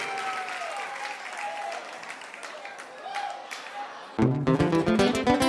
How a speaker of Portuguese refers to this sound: Queria uma salva de palmas para meu grande pai